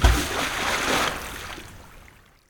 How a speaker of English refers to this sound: Soon, the box falls into the sea.